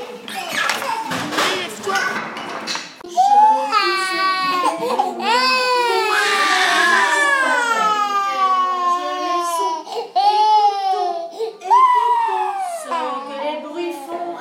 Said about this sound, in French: Alors, on est à la micro-crèche des mini-pousses, où on accueille des enfants, une dizaine d'enfants tous les jours, entre 0 et 3 ans. Ça fait beaucoup de bruit.